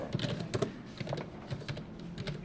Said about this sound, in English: tapping away at his keyboard.